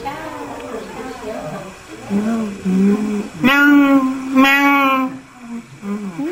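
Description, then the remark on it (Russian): A human voice imitates peacock calls: two loud, high, wailing cries with a steady pitch, following a few seconds of softer, lower vocal sounds. “Кришна забрался наверх и стал кричать павлинам. Как кричат павлины?”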